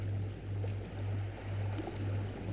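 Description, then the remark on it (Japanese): Ocean waves wash in a steady, continuous rush over a deep low rumble, swelling and easing gently every half second or so, with no voices present. “そうか、波の音を聞いていたんだ。”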